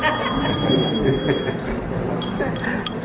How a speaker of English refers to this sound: playing the bell.